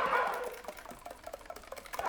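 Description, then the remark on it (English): A breathy, airy whoosh blown through a flute mimics wind, fading after a moment into a quick run of soft key clicks and taps. “And the wind sounds.”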